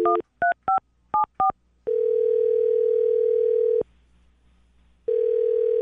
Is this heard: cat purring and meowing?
no